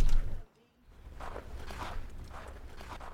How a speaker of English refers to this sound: Sound of footsteps.